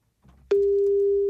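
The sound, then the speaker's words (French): A phone call to a garage manager's mobile connects to a steady, loud telephone line tone that holds unbroken and unanswered for most of the moment. It is preceded by a brief stretch of faint low rumble and line noise. “Ils ont beaucoup de portables, mais ne répondent pas beaucoup.”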